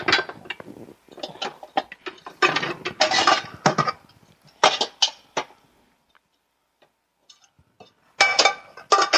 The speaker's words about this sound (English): Got to go under the pots. Ah. There it is. Pulling out a second skillet. Our chicken fryer.